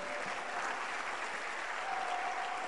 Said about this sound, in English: When you come to a church where we are teaching, it's a sign that the Holy Spirit is in the church. It's a good place to clap your hands for the Lord.